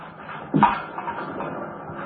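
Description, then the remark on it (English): A single short clink of a cup or dish being set down as two cups of coffee are served, followed by a soft, steady background hush with no voices. “Well, and two cups of coffee coming up.”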